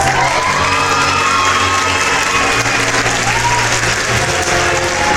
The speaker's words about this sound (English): Now, it brings me great joy to introduce tonight's performers, each bringing their own skills and talents to the show. Please be standing and give a round of applause for Alec, the Human Cannonball.